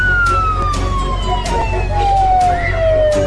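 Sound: police car siren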